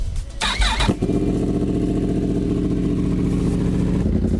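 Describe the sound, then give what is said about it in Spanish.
A Yamaha motorcycle engine cranks over with a short burst, then settles into a loud, steady, throaty rumble, with a deep pulsing idle and no voices. “Ah, eso suena a moto potente.”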